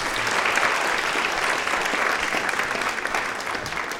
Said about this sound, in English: Round of applause for everyone.